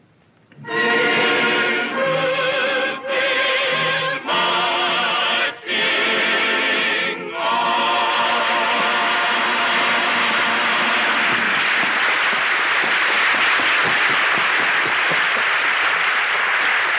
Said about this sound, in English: I'm sure our radio audience joins the audience in the theater tonight in applauding Dick Powell and our cast for their performance in Gettysburg on the DuPont Cavalcade of America.